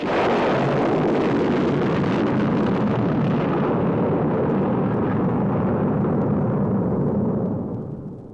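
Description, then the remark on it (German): A rocket launches, sliding down a ramp and shooting into the air: a loud, steady roaring rumble with hissing blast noise that holds for several seconds, then slowly thins and fades at the end. No voices. “Die Rakete setzte sich in Bewegung. Sie rutschte die Rampe hinab. Dann ging es hoch. Die Rakete schoss in die Luft.”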